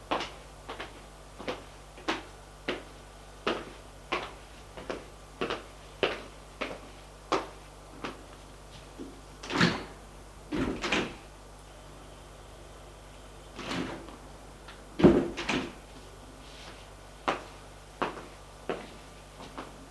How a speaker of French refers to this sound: Il a ouvert aussi l'appartement, la porte de l'appartement.